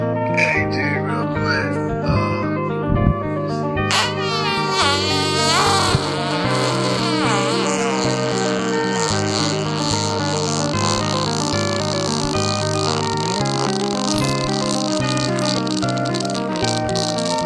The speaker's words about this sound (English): This in the middle of this fart, it becomes a Geiger counter for radiation. Wait till you fucking hear this thing, dude.